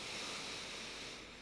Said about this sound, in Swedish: så tar vi ett djupt andetag ihop. Andas in genom näsan, fyll upp både bröstkorgen och magen med luft.